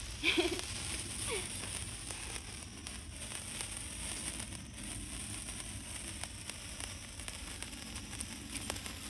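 A fairly long sparkler firework fizzes and crackles steadily, with a continuous hiss dotted by scattered sharp pops throughout.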